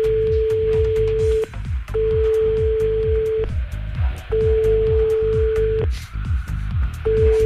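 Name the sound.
telephone dialing tones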